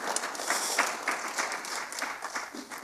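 An audience applauds steadily, many hands clapping in a dense, continuous patter that holds at a fairly even level for a few seconds, with no voices standing out.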